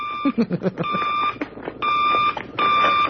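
A telephone rings in loud, shrill electronic bursts, three rings in a steady rhythm with short pauses between, prominent after a brief jumble of sound at the start.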